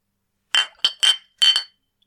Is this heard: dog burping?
no